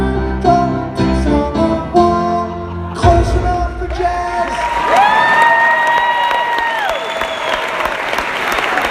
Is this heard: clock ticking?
no